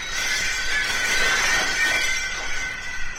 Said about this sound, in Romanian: Ai auzit, Gerda? Ce să fie oare? Poate s-a spart un geam. Stai să mă uit. Zgomotul a venit parcă de deasupra capetelor noastre.